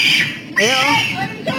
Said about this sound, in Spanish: Gritó como cochi. Wow. Esos son los gritos del asaltante, güey. ¡Por qué, hijo! Parecía que estaban matando un marrano, ¿verdad?